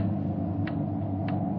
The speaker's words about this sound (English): Loud clock, ain't it? Windy. Getting cold in here. Sure a loud clock.